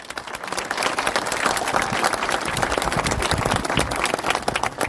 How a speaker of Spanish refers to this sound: así que para ellos un fuerte aplauso.